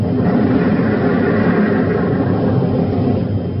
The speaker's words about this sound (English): What's happened? Oh, a cave-in. Look, the entrance of the cave is blocked.